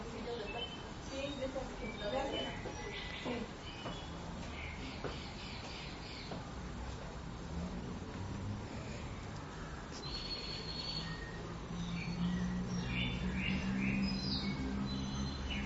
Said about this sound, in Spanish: Son como si fueran gorriones, o canarios, gorrioncitos.